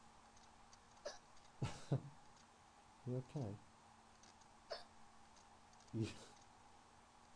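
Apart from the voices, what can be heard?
child hiccuping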